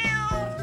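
A single short cat meow, clear, with a bright harmonic tone that bends slightly in pitch; no talking over it.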